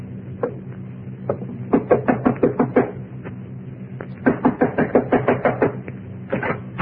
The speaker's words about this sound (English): Knock on the door, Shannon. This gun says knock. Better do it, Slate.